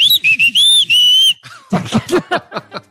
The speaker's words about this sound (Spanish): Se oye el chilangazo, güey, en el chiflido. En el chiflido, claro está.